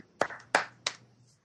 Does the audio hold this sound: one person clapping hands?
yes